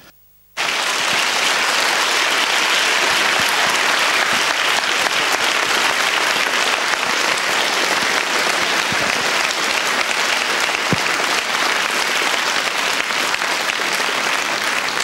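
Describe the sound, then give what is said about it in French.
Sustained applause from a large audience fills a full hall in Saint-Maurice, welcoming Michael Lonsdale and Father Nicolas Butet, a dense, steady wash of clapping hands that starts abruptly and continues at an even, loud level throughout. “Eh bien, ces applaudissements, Michael Lonsdale et père Nicolas Butet, vous disent à quel point la salle ici à Saint-Maurice vous accueille chaleureusement.”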